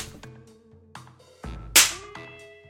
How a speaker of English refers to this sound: Reluctantly, David tried his best to replicate the force of the slaps on the actress's arm.